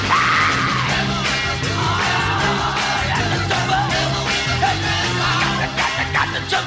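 A high, piercing falsetto scream rings out over a loud, driving rock band, the voice straining at the start before the full-band music keeps pounding along beneath.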